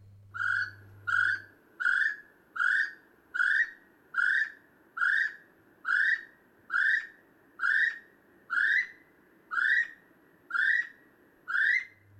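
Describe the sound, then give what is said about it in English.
A little spotted kiwi (kiwi pukupuku), a native bird, calls in a steady series of about fourteen shrill, rising whistles, evenly spaced and loud, with a faint low hum at the very start and end. “This week we are talking about the kiwi puku puku.”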